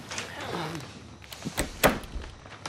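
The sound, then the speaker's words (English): A back door to a kitchen swings shut with a solid thud. A softer knock comes before it and faint rattling follows. A brief murmur of a voice comes just before. “She closes the back door and he sets down his bag.”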